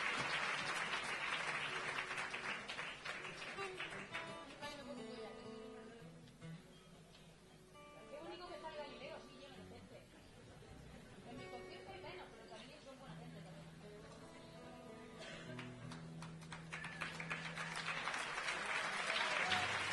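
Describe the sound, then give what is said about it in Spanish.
An audience applauds steadily for the whole stretch, the clapping dense and loud, easing slightly in the middle before swelling again near the end, with some chatter mixed in. “Yo quiero, perdón, que os he interrumpido el aplauso y era muy bonito.”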